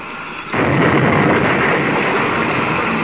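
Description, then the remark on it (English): After a half-second hush, a sudden loud crash bursts in and swells into a dense, sustained roaring rumble as a patched-up spaceship rams a gang ship and the two, locked together and out of control, crash; no voices. “They did. The ships are locked together. But both of them out of control. They've crashed.”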